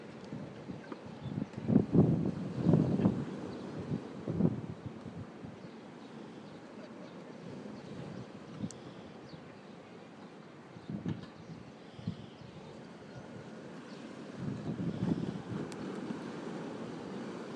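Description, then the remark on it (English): Choppy sea waves slap and surge in irregular bursts over a steady, rough wash of water and wind noise, louder at first and again near the end, with no voices. “Quite choppy, those waves, by the sound of it.”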